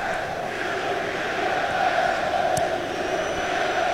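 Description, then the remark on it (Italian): Football fans, believed to be German supporters, chant in a stadium during the Roma versus Bayern Munich UEFA match, a dense wall of massed voices holding a steady, droning pitch at an even loudness throughout, with no individual speech standing out. “Credo siano i tifosi tedeschi questi che si fanno sentire.”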